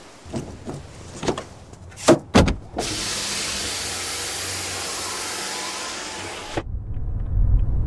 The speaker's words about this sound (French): Et le son du vent frais qui passe par les fenêtres que l'on entr'ouvre dans les voitures en mouvement me semble être un enfer cet été.